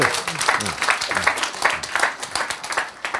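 An audience bursts into steady applause, many hands clapping in a dense, crackling wash that holds at a fairly even level for a few seconds, with a faint voice underneath at the start.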